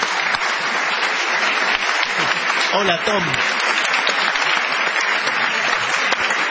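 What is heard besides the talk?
studio audience applauding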